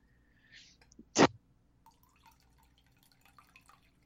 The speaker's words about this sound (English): Yeah. Either peeing or pouring tea. I can't tell. Oh, I was just pouring some coffee.